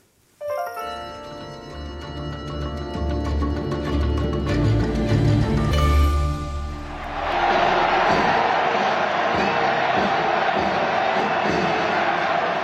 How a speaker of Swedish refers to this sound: Det här är ju inte fotboll som det låter som, utan det är från ett år sedan när konklaven inleddes i Rom.